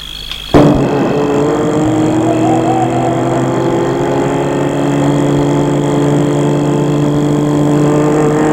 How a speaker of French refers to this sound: La voiture entre dans la propriété.